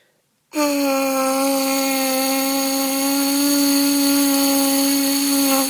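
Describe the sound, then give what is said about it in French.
A single sustained lip buzz ("the bee") through a brass mouthpiece, practised as a breathing exercise, holding one steady mid-low pitch for about five seconds after a short silence, bright and raspy with no talking. “Et quand on sait faire l'abeille, après on peut faire l'abeille dans l'embouchure.”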